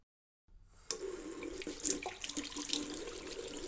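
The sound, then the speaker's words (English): After a brief silence, a sink tap gushes on and runs steadily, with uneven splashing as hands are washed with soap under the fairly loud stream. No one speaks. “And I wash my hands, just like you, in a sink with soap and water for at least as long as it takes to sing this song.”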